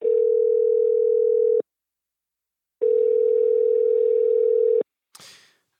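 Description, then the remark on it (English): A steady telephone line tone sounds twice in long, even bursts separated by a pause, loud, followed by a brief click and rustle as the line picks up on a phone call. “And then Friday night, we got on the phone one last time.”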